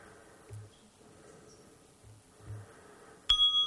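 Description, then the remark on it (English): A meditation bell is struck once near the end, its clear, bright tone ringing out and sustaining. Before it, all is quiet apart from a few soft low thumps. “The next time the bell rings, see if your focus is still on the Buddha gazing down on the world of people they are taking care of.”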